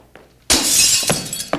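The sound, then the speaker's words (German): A sudden loud crash of window glass shattering as someone locked out comes through the window, followed by a bright, hissing spray of breaking shards and a few sharp tinkles as pieces fall, with no voices. “I come through the window.”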